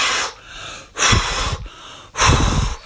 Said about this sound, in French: Soufflez trois fois.